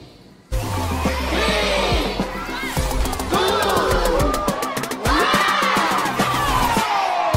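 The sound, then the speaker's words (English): A crowd of children cheers and shouts together as they open Operation Christmas Child gift boxes, high-pitched voices overlapping in excited rising and falling cries, loud and continuous from just after the start to the end. “Children open their boxes, you can hear the laughter, the cheer.”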